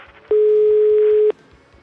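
A single loud, steady telephone tone sounds for about one second while Radio Študent hosts place a call, then cuts off, leaving a faint background hum with soft rhythmic ticks.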